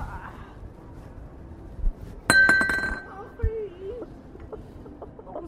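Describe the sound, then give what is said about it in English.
A sudden loud crash of glass hitting a hard floor, with a bright ringing shatter and a few smaller tinkling bits settling afterward, followed by a faint voice. “It was glass. Yeah, but it's gone on the floor, and I think it might have smashed.”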